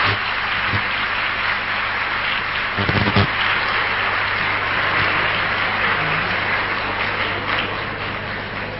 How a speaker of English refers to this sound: Yes, now clap.